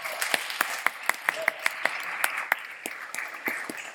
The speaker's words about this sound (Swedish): Ja, vi har ett gäng här från Lysekil, han använder det. Men jag vill bara förtydliga det. Välkomna hit, en applåd för dem.